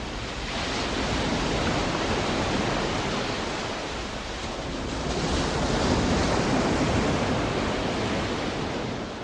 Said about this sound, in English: They kept working until they felt like it captured the majestic sound and feel of the ocean. … called this track ….